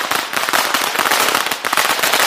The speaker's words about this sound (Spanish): Efectivamente, han escuchado en directo la gran despertá que con más de 1000 petardos está subrayando la importancia del día que empieza.